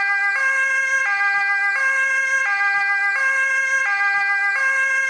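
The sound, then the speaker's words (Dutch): An ambulance siren wails in a steady two-tone hi-lo pattern, switching pitch roughly every 0.7 seconds, loud throughout with no voices. “Ambulance.”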